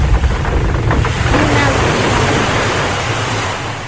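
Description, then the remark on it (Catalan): A loud, roaring ocean wave crashes on the shore, a dense wash of surf noise that holds steady for several seconds before easing off slightly at the end. “Una altra onada.”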